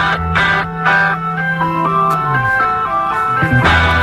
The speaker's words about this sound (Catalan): Molt inquietant la música de fons, ara mateix.